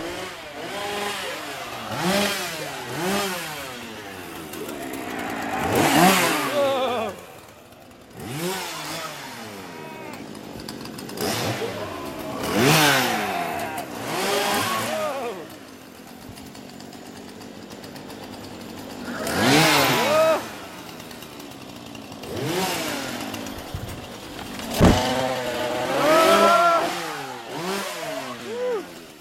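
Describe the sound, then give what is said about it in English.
A chainsaw revs loudly in repeated surges, its engine whining up and dropping back between bursts, with no one speaking over it, as the finale of an outdoor scare maze trail. “So we have just finished the trail, which had a nice chainsaw finale.”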